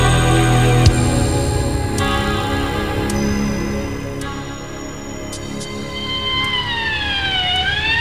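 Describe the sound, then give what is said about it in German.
A police patrol car siren sounds loud, its tones holding steady before sliding into a rising and falling wail, with traffic rumble underneath and no one speaking; the car is arriving at a parking garage. “Ein Streifenwagen war noch vor dem Krankenwagen da.”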